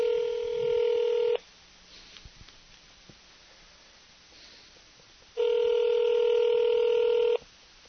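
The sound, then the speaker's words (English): A telephone line rings through a handset: two long, steady electronic ring tones about four seconds apart, with quiet line hiss in between and no one speaking. “So we're ringing him now.”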